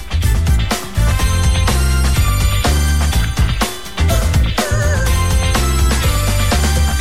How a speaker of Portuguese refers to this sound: Já começa a tocar o sino aqui e eu já, a partir de agora, já vou programando aqui os modão para depois da Ave Maria.